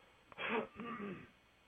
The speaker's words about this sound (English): I'm going to get a drink here and clear my throat. Excuse me.